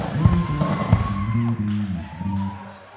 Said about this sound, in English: he's been in the band for 2 days, so give him a big round of applause if you can.